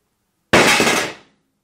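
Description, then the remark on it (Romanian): An iPhone 15 Pro smartphone in a protective case is dropped and strikes a hard floor on its corner: one sharp, loud crack with a brief bright ring that fades within a second, surrounded by silence and no voices. “Mamă, cum s-a auzit? A căzut în colț.”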